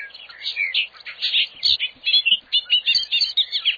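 A bobolink sings its last song of the evening across a road over an open field: a bubbling, tumbling song pouring out continuously, a rapid jumble of bright, metallic warbles and chirps with no voices.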